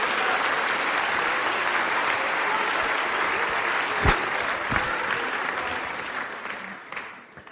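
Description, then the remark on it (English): An audience in a church claps steadily in a broad, dense wash of applause, then gradually thins and fades out over the final seconds. “All applause in this church goes to the Heavenly Father, not to man.”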